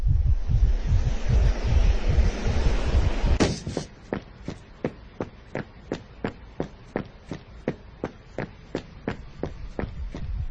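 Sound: heartbeat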